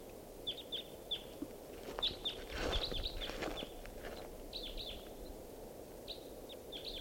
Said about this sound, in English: Wild bird. Looks like a male. Song phrase.